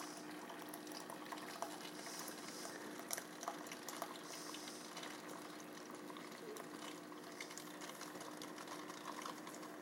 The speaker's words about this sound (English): So our hot chocolate's pouring. Ooh, and I can smell it. It smells really good.